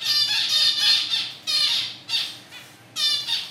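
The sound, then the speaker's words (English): Harsh, nasal calls of female zebra finches in a university laboratory aviary repeat in quick bursts, about six or seven distinct squawks spaced unevenly over a few seconds, fairly loud, with no voices present. “At the university's laboratory aviary, female zebra finches provide plenty of audio examples”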